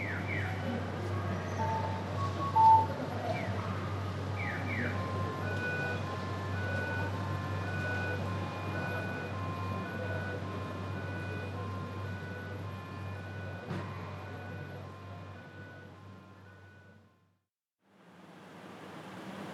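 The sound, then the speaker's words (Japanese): A busy late-night street during the Golden Week holidays, with people and cars passing: a steady wash of traffic and a low engine hum, a few chirping electronic beeps early on, and a brief drop to near silence near the end. “ゴールデンウィークということもあり、夜中にもかかわらず人々や車が行き交っています。”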